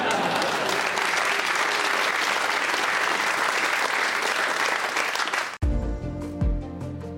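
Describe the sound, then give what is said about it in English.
A large crowd of Tory MPs stand and clap steadily in sustained, dense applause for several seconds as Boris Johnson sits down at the end of PMQs, then it cuts off abruptly into a different, quieter segment with music-like tones. “As Boris sat down at the end of PMQs, the Tory MPs all stood and clapped.”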